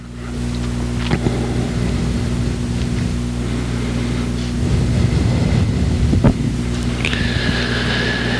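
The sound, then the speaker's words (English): A steady wash of papery rustling as many Bible pages are turned at once while people look up Romans 8:23, with a few sharper flips standing out, over a low electrical hum and a thin high tone near the end. “I still have a lot of pages turning.”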